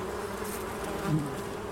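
A dense swarm of bees buzzes steadily, a continuous droning hum with many overlapping wingbeats, swelling slightly louder for a moment before settling back. No voices are present.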